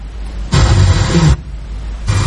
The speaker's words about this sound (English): As long as we get close, we can hear this static noise. So that's our channel, this one. That's 102.5. That's one of the major broadcasters in Italy. And you can hear nothing.